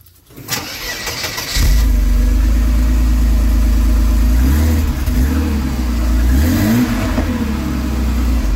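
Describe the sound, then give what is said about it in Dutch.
A Mercedes car engine in a showroom cranks briefly, catches with a loud rumble and settles into a steady idle, then revs up a couple of times before dropping back, with no talking. “Weet jij welke auto er is gestart in de showroom?”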